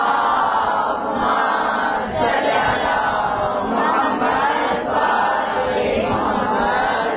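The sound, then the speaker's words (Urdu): A large crowd loudly recites salawat in unison, a dense wall of many voices rising and falling in rhythmic phrases for several seconds with no single speaker standing out. “بابا سے بلند صلوات پڑھ دیجیے.”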